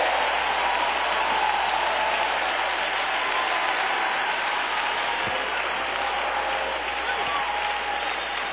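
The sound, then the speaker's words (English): A large crowd claps continuously with scattered shouts and cheers, a dense, steady roar of applause filling the room for several seconds. “I mean, even you folks in the balcony ought to be on your feet shouting and clapping your hands.”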